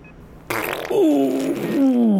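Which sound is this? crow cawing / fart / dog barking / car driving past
fart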